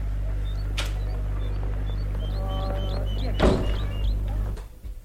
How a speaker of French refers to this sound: Elle ouvre la porte de son immeuble. Et le fait passer devant. Vite, elle entre et ferme la porte.